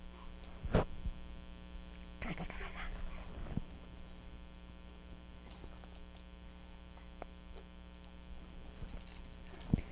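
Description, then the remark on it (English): Keys jangle in a few short, light bursts, with scattered metallic clicks over a steady low electrical hum. “Making some noise, jingle jangle.”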